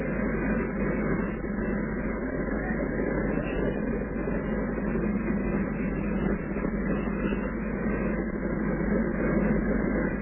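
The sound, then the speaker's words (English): An armored car's heavy engine revs with a loud, continuous low rumble that holds steady for the whole stretch, with no voices over it. “I thought that was the machine gun revving up again, but it was really an armored car revving up its engine”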